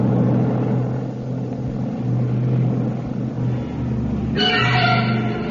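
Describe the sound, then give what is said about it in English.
A propeller airplane carrying an actor takes off from a military airfield at Mannheim, its engine droning loudly and steadily with a deep, throbbing hum, then swelling with a brighter, higher whine near the end as it powers up. “plane carrying the actor Janos Capek left the military field at Mannheim”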